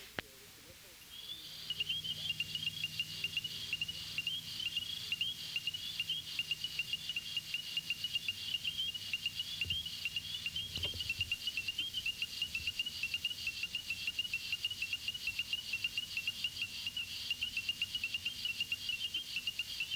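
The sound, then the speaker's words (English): A dense frog chorus carries on steadily throughout: sharp, repeated call notes of an ornate chorus frog (Pseudacris ornata) mixed into the continuous shrill din of rapid, high-pitched whistling peeps from spring peepers in the background. “Its call is a sharp note, which is heard here with the whistles of spring peepers in the background.”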